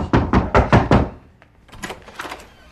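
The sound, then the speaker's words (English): A quick run of five firm, evenly spaced knocks on a house door by a sheriff's deputy come to serve an eviction, loud, followed by a brief pause and a softer, muffled cluster of taps or door rattling. “Then comes a knock at the door, the sheriff, and behind him, Carver.”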